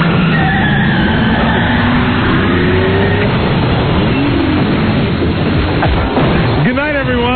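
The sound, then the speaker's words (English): A car engine revs up and down in a few rising and falling sweeps, then sputters out and stalls. It is loud throughout, with voices faintly underneath. “You killed the car.”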